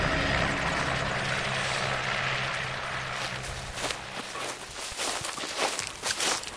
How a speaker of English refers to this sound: The helicopter lands and we scramble over to the ice patch.